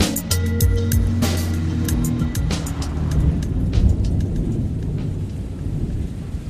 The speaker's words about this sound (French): Il pleut sur Bastia. C'est tristounet.